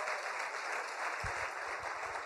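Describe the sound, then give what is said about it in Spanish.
An audience applauds in a steady, dense wash of clapping that holds at an even loudness for the whole stretch, with no voices standing out. “Yo quiero que le regale un aplauso que lo escuche allá.”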